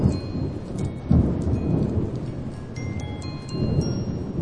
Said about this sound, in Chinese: 不久，天下雨了。